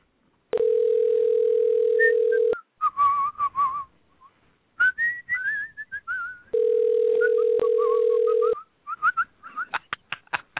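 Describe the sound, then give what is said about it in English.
A telephone line rings twice, each ring a steady two-second electronic tone, while someone whistles a wandering tune in the gaps between rings. No one speaks. “Can we, we'll take a short break while the phone rings and we'll be back right after this.”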